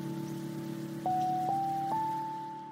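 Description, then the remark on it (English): Soft, steady rain-like hiss runs underneath a mellow lo-fi music track, with sustained tones stepping up in pitch a few times; the patter stays faint and constant throughout, with no voices. “And is that like rain in the background?”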